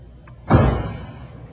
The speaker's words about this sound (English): how many times must I tell you not to bang the door?